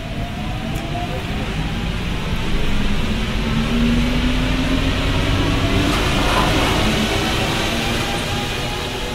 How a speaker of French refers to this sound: Les portes se refermèrent dans un bruit de mâchoire qui claque, et le métro se mit en branle, cahotant sur ses rails.